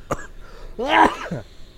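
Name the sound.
heavy hacking cough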